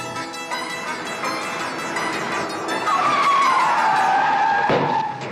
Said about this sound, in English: Oh, what are you doing? Just testing the brakes, eh? It felt a little soft.